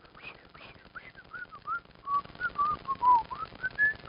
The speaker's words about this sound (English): As kids, we fooled around with whistling. We couldn't whistle at first. We went, and it took some time and some effort to learn to whistle.